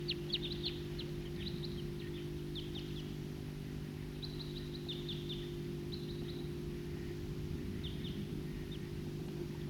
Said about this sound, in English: It's recording Flock of Wild Birds.